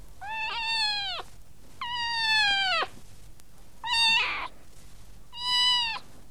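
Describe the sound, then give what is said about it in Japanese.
A cat meows four times in a row, long drawn-out harmonic cries with short pauses between, the third one brief and rougher, all fairly loud with no talking. “わかった。この声は猫だもんね。”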